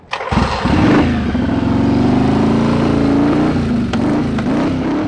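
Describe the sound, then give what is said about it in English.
A motorcycle engine at the Mid-Atlantic Women's Motorcycle Rally in Gettysburg fires up after a brief pause and settles into a loud idle, its throaty rumble rising and falling as the throttle is revved several times. No one speaks. “So when I ended up at the Mid-Atlantic Women's Motorcycle Rally last weekend in Gettysburg, I saw that combination taken to a whole new level.”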